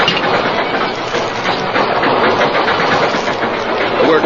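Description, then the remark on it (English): A heavy work locomotive engine, put in reverse with the throttle opened wide, roars at full power: a loud, dense, continuous rumble and hiss that holds steady, with no voices. “He put the work engine in reverse and opened the throttle wide.”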